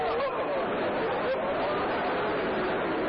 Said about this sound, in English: And the crowds are moving swiftly back and forth.